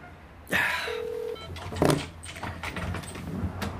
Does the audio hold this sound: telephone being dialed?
yes